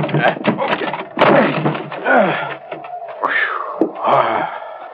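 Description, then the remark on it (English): A wooden door on a scow is forced open in the snow with a couple of sharp thuds and long, groaning creaks of strained wood, fairly loud, with bursts of muffled voices mixed in. “Help me bust this door.”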